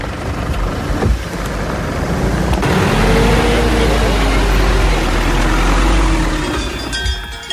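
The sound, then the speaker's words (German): A car engine drones steadily as the car drives up a mountain road to an alpine pasture, with a loud low rumble and road noise that swell slightly, the pitch rising and falling as it works through gears. “Darum hat es geheissen, ab ins Auto und rauf auf die Alp.”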